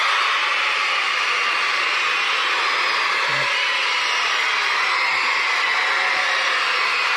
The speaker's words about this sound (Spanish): Eu creo que están berrando, non? Sí. Hai gritos, non? Sí, sí.